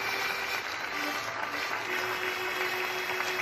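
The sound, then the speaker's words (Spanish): Steady, dense applause from many hands, the daily 8 o'clock applause for healthcare workers, a continuous crackling wash of clapping that holds at an even level for the whole few seconds, with no voices on top. “Por eso, su cuidadora le animó a salir a tocarla a la ventana todos los días a las 8, para hacerle creer que los aplausos, que como bien sabes eran para los sanitarios, eran en realidad una ovación por su concierto.”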